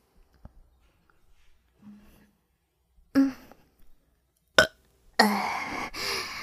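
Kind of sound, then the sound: human body sound, burping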